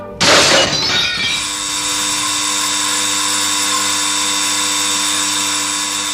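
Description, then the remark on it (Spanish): A brick is thrown hard against a jewelry shop window: a sudden loud crash of breaking glass lasting about a second, immediately followed by a steady, continuous high-pitched alarm bell ringing without pause to the end. No voices are heard. “Se coge el ladrillo y se le tira muy fuerte contra el cristal de cualquier joyería.”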